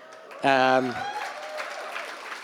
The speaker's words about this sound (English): Are you clapping for Belito? I don't know. Why though? Why? Oh, more KZN people, that's why.